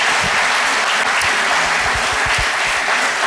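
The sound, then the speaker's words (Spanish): Steady applause from an audience, given for Jesus, a dense hiss of many hands clapping at an even loudness for a few seconds, with a few sharper low thumps scattered through it. “¿Le da un aplauso a Jesús por eso?”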